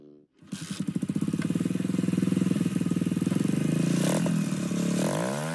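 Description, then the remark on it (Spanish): Loud motorcycle engines rumble in a steady, throbbing roar, the pitch climbing near the end as they rev, with no voices heard; an annual caravan of thousands of loud motorcycles arriving in Washington D.C. from all over the United States on Memorial Day. “Y el popular Roller Thunder, la caravana anual de miles de ruidosas motocicletas que llega a Washington D.C.”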